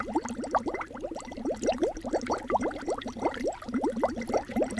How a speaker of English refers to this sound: However, the sound you just heard is actually me blowing into a glass of water with a straw.